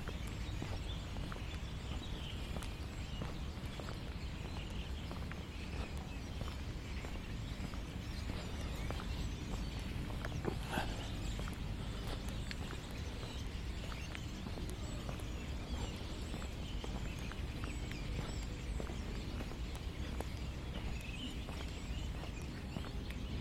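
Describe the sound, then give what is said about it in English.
A flock of birds keeps up a dense, continuous chatter of overlapping chirps and calls, steady in loudness throughout, with no voices. “So we've got a lot of activity over to the right. They're the same flock of birds that I captured last time.”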